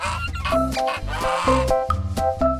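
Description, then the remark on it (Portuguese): A goose, Goosey Poosey, honks repeatedly, a quick run of loud, nasal calls with short gaps between them and no talking. “Ele era o ganso, sabiam?”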